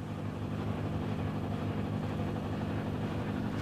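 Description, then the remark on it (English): Heavy diesel engines of a sand mining company's dredging operation drone steadily and without pause on the Tonle Basak, a tributary of the Mekong River, at Sa Ang in Cambodia: a deep low rumble with a constant mechanical throb. “The engines never stop. They don't even take a lunch break.”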